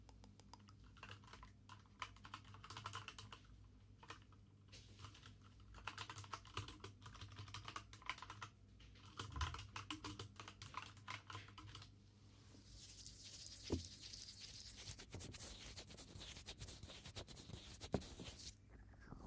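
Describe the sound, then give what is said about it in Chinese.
Steady, quick typing on a computer keyboard, a clatter of clicky keystrokes in uneven bursts, with a softer scratchy texture in the later part and no voices. “给你们听一下键盘出发音。”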